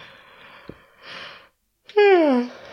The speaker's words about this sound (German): Kurzer Gähner, Entschuldigung.